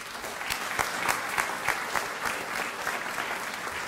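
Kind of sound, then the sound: crowd, audience applause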